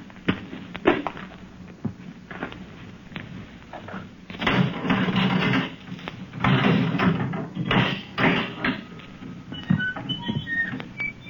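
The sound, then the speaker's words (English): A heavy door is unlatched and swung open, with several clunks and knocks followed by a long scraping rumble and a few fainter rattles. “Open the door.”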